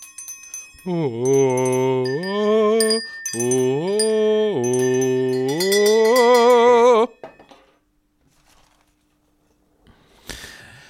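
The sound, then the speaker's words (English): Small bells on a desk ring out with bright, sustained high tones for several seconds while a voice vocalizes loudly over them, then everything stops, followed by silence and a brief rustle. “I might need to not have the bells on my desk in the future.”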